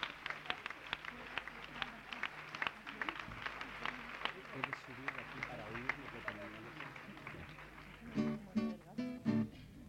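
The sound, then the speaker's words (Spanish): An audience applauds steadily for about eight seconds, a dense patter of many overlapping claps, before a person's voice starts speaking over the fading clapping. “Un aplauso para mi hermano aquí que tiene que...”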